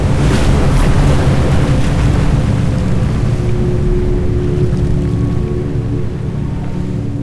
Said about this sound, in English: I took the glass of water and dumped it into the sand. Water poured from the glass like a tidal wave. The elephant monsters were washed away, and the flood turned the desert into an ocean.